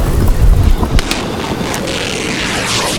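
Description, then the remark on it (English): Wind gusts through a ship's falling-apart sails: a low, buffeting rumble at first, a few sharp flaps of canvas, then a steady, airy hiss of wind blowing right through, with no voices. “The sails aren't working, Captain! They be falling apart! And the wind be blowing right through!”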